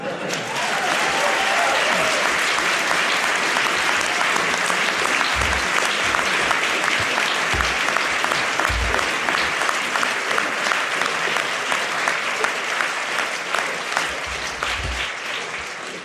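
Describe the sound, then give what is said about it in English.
Sustained applause from a sizable debate audience after a speech proposing a motion, a steady dense patter of many hands clapping, with occasional low thumps and no clear speech over it. “I saw you applauding during that.”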